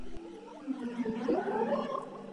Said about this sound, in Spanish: ¿Ah? Mira, se comunican y todo. Incluso suenan un poco a ballena.